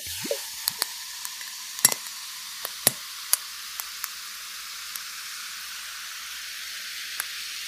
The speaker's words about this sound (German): Das mache ich jetzt auch mal mein Tonic Water auf und gieße mir das jetzt in mein Glas mit den Eiswürfeln.